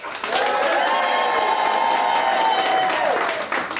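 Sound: studio audience cheering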